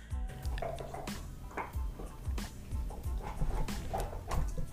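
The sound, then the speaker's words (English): Two dogs gnawing on their bones in a living room: a steady, irregular run of crunches, clicks and scrapes, with a few soft canine whimpers and grunts mixed in, and no one talking. “And now, just so you know, dear listener, both my dogs are in the living room with their bones. It's going to be a bone cacophony in here.”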